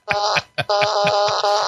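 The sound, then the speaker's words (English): A loud fart sound effect from a fart machine: a short buzzy blast, a brief sputter, then a longer, rasping, pulsing blurt lasting over a second, with no talking. “Thank you for the fart machine.”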